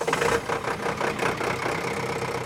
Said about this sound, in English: I hitched a ride earlier this week in one of the city's tractors used to rake the beach